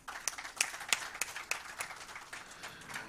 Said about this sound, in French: Je voudrais, Mesdames et Messieurs, vous prier de renouveler des acclamations pour Monsieur le Président de la Commission électorale